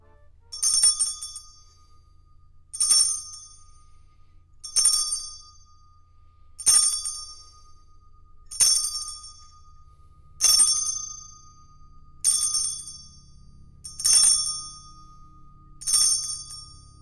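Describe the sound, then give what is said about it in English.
A bright chime strikes nine times at a steady, unhurried pace, each ring decaying briefly before the next, over a faint low background hum with no talking. “I think you are up with a chime.”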